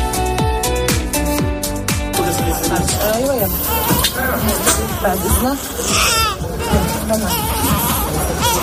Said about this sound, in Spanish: Es el sonido de los bebés prematuros que ya han llegado a Egipto. ¿De qué bebés prematuros te estoy hablando? Pues de los bebés prematuros que fueron evacuados del hospital de Al-Shifa.